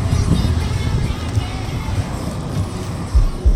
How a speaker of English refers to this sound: Yes, the AC is going on because I'm hot.